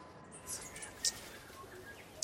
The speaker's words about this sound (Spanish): El pájaro jijí está volviendo, lo han escuchado. Dirigido casi a la extinción en su nativa Nueva Zelanda, el ave fue objeto de un programa de reubicación y reproducción.